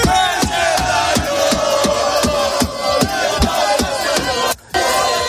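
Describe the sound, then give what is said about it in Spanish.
A loud crowd of Spaniards celebrating Spain's Euro Cup win roars and chants in the streets of Madrid at 3 a.m., over steady rhythmic pounding beats, with car horns honking continuously beneath, and a brief dropout near the end. “Los coches no paran de pitar, los españoles siguen festejando y así suenan a las 3 de la mañana las calles de Madrid.”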